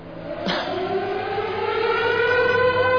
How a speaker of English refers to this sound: It's the siren. He's coming in.